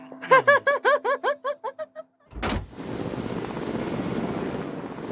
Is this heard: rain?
no